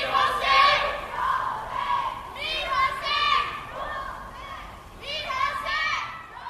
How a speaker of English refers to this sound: In summer 2009, post-election malcontents in Tehran issued anonymous calls to each other across rooftops at night.